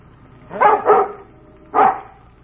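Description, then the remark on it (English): A dog named Bullet barks excitedly, two quick sharp barks followed after a pause by another and the start of a fourth, with no voices over it. “He's upset about something. He wants us to follow him.”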